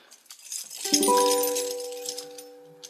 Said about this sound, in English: Wants us to know he really likes music. He plays a tambourine.